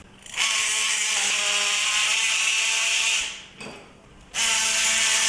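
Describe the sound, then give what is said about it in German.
A surgical saw, guided by a sawing template set to 5 degrees, cuts a flat slice of bone from the femur (thigh bone) during surgery, with a loud, high-pitched buzzing whine, running for about three seconds, stopping briefly with a short blip, then starting up again. “Jetzt haben Sie so eine richtige Knochenscheibe abgesägt.”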